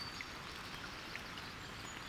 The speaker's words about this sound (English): Once the storm passes over, the rain diminishes to a drizzle. I come upon a flooded pool in the forest and stop to listen to the sounds of the raindrops and drip plinking into the pool.